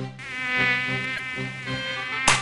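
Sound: mosquito buzzing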